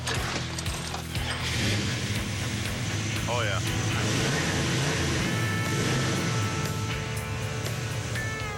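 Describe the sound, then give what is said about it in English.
A custom car with a brand new interior and a full custom paint job starts and runs with a steady, loud low rumble and mechanical rattling throughout, while a person briefly speaks over it. “I'm hoping we can flip this car for about 23 grand. She purrs, too.”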